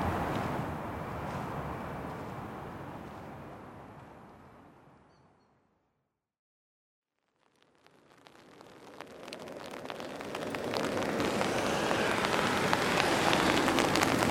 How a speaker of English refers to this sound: Well, the rain that was predicted is here now. I just went inside.